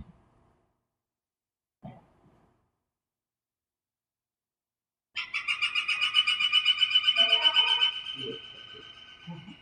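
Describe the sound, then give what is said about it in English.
A northern flicker woodpecker calls in a loud, rapid run of sharp, repeated notes lasting a few seconds, with a faint voice beginning as the series trails off. “It is a type of woodpecker. It's a northern flicker.”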